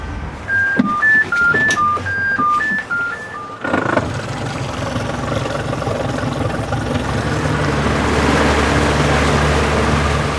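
A short melodic jingle of bright tones gives way to the steady rumble of a boat engine with rushing water as the boat sails onto the Netta river in Augustów, Poland, at the start of the Augustów Canal, continuing loud and even to the end.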